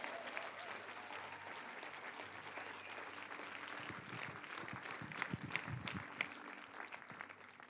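A church audience applauds steadily for Jesus and a speaker after a prayer, a dense wash of many hands clapping at an even level throughout, with a few louder claps and faint voices mixed in toward the end.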